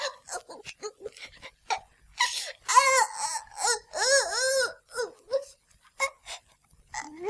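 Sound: baby crying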